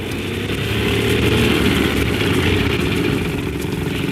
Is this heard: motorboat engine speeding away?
yes